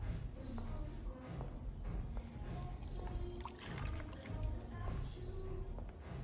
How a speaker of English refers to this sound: Frank inspects his fight-damaged hands and plunges then into a cooler of ice water.